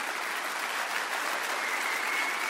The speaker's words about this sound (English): And you can applaud that.